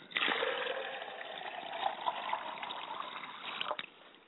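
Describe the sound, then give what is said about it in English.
Water pours steadily into a glass for about three and a half seconds, a continuous splashing stream that stops abruptly with a faint final drip. No one speaks. “I like to pour a glass of water on behalf of my mother's side of the family.”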